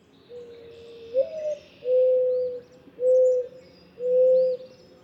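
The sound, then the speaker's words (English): A mourning dove coos: a drawn-out, slightly rising opening note followed by three soft, steady hoots at even intervals, with faint bird chirps in the background. “Indeed, mourning doves are doing pretty well. This is one of the most familiar and common birds in North America.”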